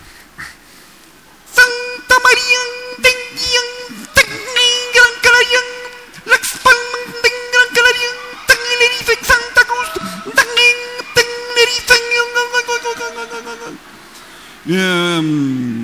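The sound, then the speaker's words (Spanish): A voice imitates a classic car horn with a long run of short, buzzy honking bursts in quick uneven rhythm, loud, ending with a brief rising wail. “Imitación de la pita del coche, ciertos clásicos de coche.”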